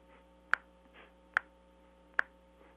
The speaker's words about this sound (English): Okay. And it goes like this. It's a little finger snap rap.